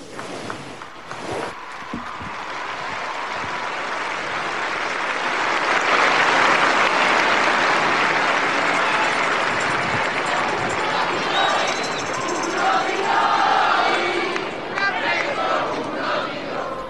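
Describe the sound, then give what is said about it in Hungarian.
A large crowd at the end of a papal audience bursts into sustained applause and cheering, greeting Pope Francis; it swells to a peak midway and continues steadily, broad and enveloping, with scattered shouts and voices mixed in. “Lassan már elmaradhatatlan a tapsvihar és Ferenc pápa köszöntése így az audiencia végén.”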